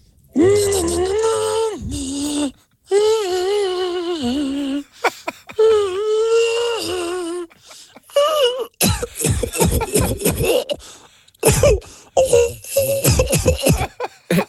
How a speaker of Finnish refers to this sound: Se yskäskin tuolla äänellä. Kuuntele tästä tää hieno. Kuulosti ihan tämä oksentavalta muppetilta.